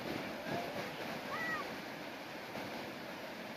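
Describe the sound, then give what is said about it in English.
A steady, loud roar of a rushing flash flood fills the whole stretch where a dry bed had been, dense and unbroken, with a brief faint tonal chirp riding briefly above the churning noise. “This is like, that's a legitimate flash flood.”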